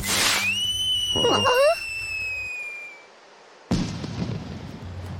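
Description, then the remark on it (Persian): A firecracker lets out a long, steady high whistle lasting a few seconds, then falls quiet before a sharp bang bursts out, followed by a fading crackle. Loud. “ببینم اون ترقه مسخره دیگه چی بود؟”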